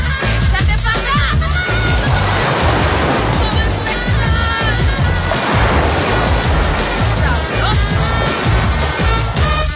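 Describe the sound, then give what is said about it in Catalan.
Loud, continuous rush of crashing waves fills the whole stretch, a dense roaring wash of water that surges and swells, with faint tonal sounds woven through the noise. “Aigua.”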